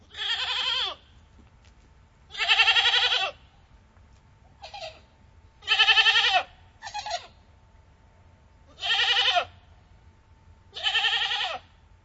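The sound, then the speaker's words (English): Goats bleat in a dairy barn in Chatham County, about seven loud, wavering calls spaced a second or two apart, some overlapping, against a low hum of background noise. “At the Celebrity Dairy in Chatham County, February is the peak month when the goats deliver kids and begin milk production, also known as freshening.”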